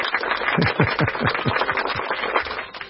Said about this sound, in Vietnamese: Mời anh chị em và các bạn cho chàng pháo tay.